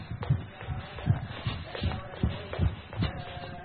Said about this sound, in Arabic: الرمل، الرمل اللي هو زي ما قلت كده تقارب الخطى، هذا هكذا، مش الناس اللي بتاخدها رمح لا، وإنما يعني خطوات قصيرة متقاربة هكذا.